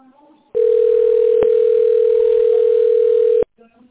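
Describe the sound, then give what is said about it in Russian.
A telephone ringback tone while on hold after calling the company Pozhexpert: one steady, loud, mid-pitched hum lasting about three seconds, with a tiny click partway through. Faint speech murmurs just before and after it. “Вы позвонили в компанию «Пожэксперт». Пожалуйста, дождитесь ответа специалиста.”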